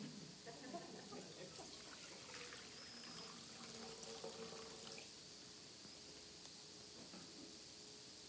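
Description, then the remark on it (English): Water from the Jordan River pours steadily into a basin during a church baptism service, a soft continuous splashing trickle, easing slightly toward the end, with no one speaking. “And this water here is water from the Jordan River.”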